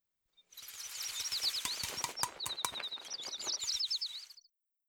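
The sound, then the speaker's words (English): Birds chirp and twitter busily in a garden tree as they eat seeds put there for them, a rapid, overlapping chatter mixed with quick clicks and fluttering sounds, fairly loud for a few seconds with no one speaking. “The birds ate the seeds Granny Pig had put in the tree.”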